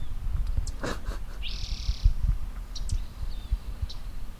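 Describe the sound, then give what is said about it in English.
Birds call over a low rumbling background: a brief burst of higher chirps, then a sustained buzzy call lasting about a second, followed by a few more short chirps. “I hate these birds.”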